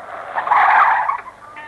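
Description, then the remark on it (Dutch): A car brakes hard, its tires skidding in a loud, harsh screech that swells for about a second and then fades away, with no voices present. “Nou gaat ik op me remmen.”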